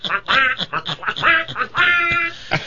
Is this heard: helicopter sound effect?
no